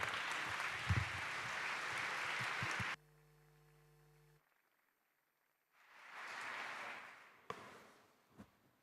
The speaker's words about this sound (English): Applause.